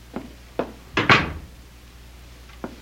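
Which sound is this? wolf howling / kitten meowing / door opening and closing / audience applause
door opening and closing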